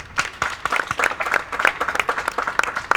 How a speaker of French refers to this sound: Une standing ovation pour nos chroniqueurs du jour